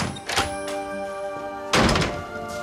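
An office door opens with two dull thunks, a lighter knock first and a heavier, louder one about a second later, over a steady background hum with no voices.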